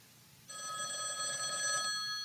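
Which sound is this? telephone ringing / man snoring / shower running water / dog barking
telephone ringing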